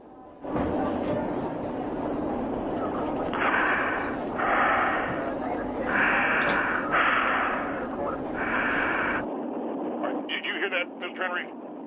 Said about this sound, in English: I heard breathing. That is the woman that in question. She's called my home on two different occasions.